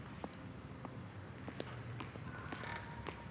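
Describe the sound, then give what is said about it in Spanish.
A folding chair is unfolded and placed beside another chair behind a desk, with a series of soft, irregular metallic clicks and rattles, ending in a slightly louder clatter as it settles into place. No voices are heard. “La despliega y la coloca junto a la de Nin, detrás del escritorio.”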